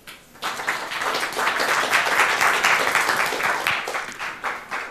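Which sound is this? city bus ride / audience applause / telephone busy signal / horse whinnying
audience applause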